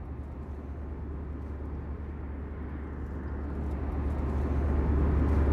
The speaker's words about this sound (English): Okay, we're on an airplane flying from Toronto to New York.